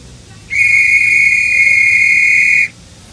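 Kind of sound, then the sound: signal or alarm, whistles being blown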